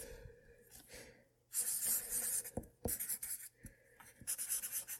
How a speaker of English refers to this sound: So, she got out a pen. She wrote everybody's name on a piece of paper.